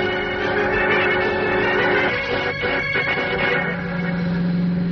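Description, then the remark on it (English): A car drives along a main highway, its engine a steady, loud droning hum with humming tonal overtones that holds unbroken for the whole stretch, with a slight dip midway and no voices. “Driving on the main highway, that's not safe, Mr.”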